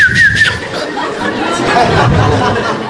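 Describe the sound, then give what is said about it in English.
A brief, wavering whistle mimics wind blowing through trees, then fades into a steady, breathy rush of noise with faint murmuring voices underneath. “You just hear the whistling of the breeze through the trees.”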